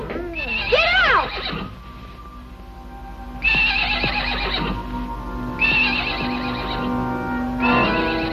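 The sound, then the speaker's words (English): A horse meant to become a racehorse neighs loudly, four whinnies in a row: a shrill rising-and-falling call, then three more separated by short pauses with quieter snorting and shuffling between. “Oh, no, he's not gonna be an army horse. He's gonna be a racehorse.”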